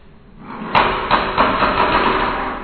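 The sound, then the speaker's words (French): A heavy iron door with a small window swings shut with a solid thud, followed by two softer knocks and rattles as it settles, then a lingering rustling noise. No one speaks. “Voilà, elle s'est refermée.”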